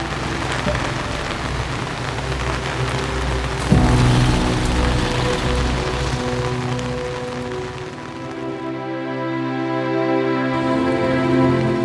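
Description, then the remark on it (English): Steady rain pours down in a dense, continuous hiss as the day darkens, with a soft thump near the start and sustained low tones humming beneath it. No one speaks. “And then, as if on cue, the day darkened and the rain came.”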